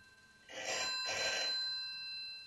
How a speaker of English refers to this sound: Oh no, there's the phone. Just when we were getting you dressed.